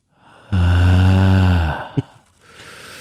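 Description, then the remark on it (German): A long, deliberate exhale, voiced and sigh-like, lasting about a second and a half, fairly loud, followed by a brief click and a quieter breathy rustle. “Jetzt das Haken zusammen und jetzt nochmal atmen.”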